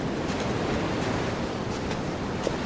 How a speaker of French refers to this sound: Et l'eau qui monte progressivement sur la plage. Grosse vague.